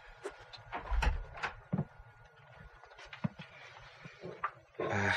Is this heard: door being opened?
yes